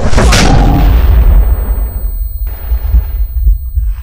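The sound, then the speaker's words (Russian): A grenade, thrown before a door is opened and stormed, explodes: one loud, sharp blast followed by a long, deep rumbling decay, then fainter secondary crackles and thuds. No voices are heard. “Я кину гранату и открываю дверь.”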